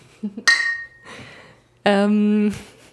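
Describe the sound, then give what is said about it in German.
Glasses clink together once in a toast with a short bright ring, followed by murmured voices and then a sustained voiced exclamation. “Ja, Prost!”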